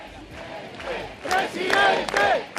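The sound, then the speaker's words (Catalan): A crowd at a political rally against the Spanish government at the Temple of Debod in Madrid gives an ovation in favour of Feijóo, a steady wash of voices swelling into loud, sustained shouts and cheers about halfway through. “Hi va haver ovacions i aplaudiments a favor de Feijóo al Temple de Devot a Madrid.”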